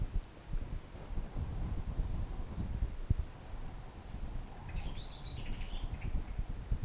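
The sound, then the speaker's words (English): Steady, rumbling wind buffets the microphone outdoors, and near the end a single short burst of bird chirping rises clearly above it. No one speaks. “Hearing the sound of the birds and the wind.”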